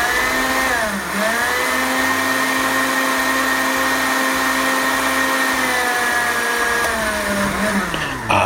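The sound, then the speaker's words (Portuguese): A blender whirs steadily, grinding thick muhammara ingredients with salt and no water into a paste; its motor pitch dips and strains as the mixture bogs down, then recovers to a continuous, loud buzzing hum with no talking. “Eu vou deixar aqui de lado, mas eu vou começar a tentar bater sem a água, tá? Pra ver se já forma a pasta.”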